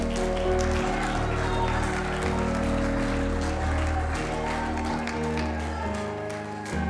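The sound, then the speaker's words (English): An audience claps steadily for several seconds, a dense, continuous patter of many hands over sustained low musical tones, tapering slightly toward the end. “Somebody ought to clap your hands right now.”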